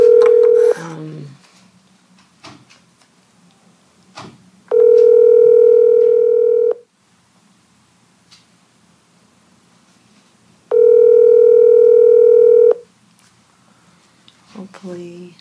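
Telephone dial tone and dialing as someone phones a person to join a School Health Advisory Committee meeting by phone: a brief tone opens, then two steady, loud electronic tones of about two seconds each, separated by a long quiet gap with faint background noise.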